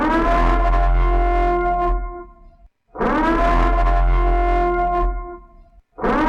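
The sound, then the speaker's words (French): A loud, wavering alarm siren blares in long repeating blasts of about two and a half seconds each, with brief gaps between, sounding harsh and slightly distorted with a metallic echo. “l'alarme a retenti, vous êtes sur Radio Pulse 90 FM”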